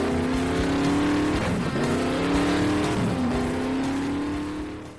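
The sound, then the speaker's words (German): The engine of a fast, big car revs hard and accelerates, its loud roar rising in pitch, dropping briefly twice as gears shift, then climbing again before fading slightly at the end. “Ja, nimm dir die Zeit, nimm dir die Kraft, die du brauchst, um mit deinem schnellen, dicken Auto von A nach B zu fahren.”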